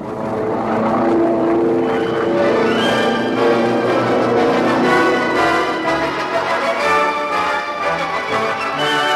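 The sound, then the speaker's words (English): A steady, loud drone of aircraft engines overhead as two planes circle an island airstrip over Russian territory, layered humming tones wavering slightly, sustained throughout with no voices. “That's a lank on the strip. Two more circling.”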